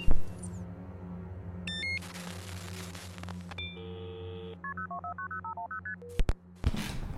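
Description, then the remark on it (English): A rapid series of telephone keypad dialing tones as someone dials a call, short evenly spaced beeps of varying pitch, heard clear over a low steady hum, with a burst of static and noise near the end. “I need to call”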